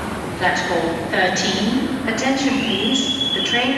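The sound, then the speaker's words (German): A train pulls away from platform 13 of a station: a steady, loud rumble of rolling carriages with rising metallic whines and squeals from the wheels, and muffled voices in the background. “Gleis 13, bitte Vorsicht, der Zug fährt ab.”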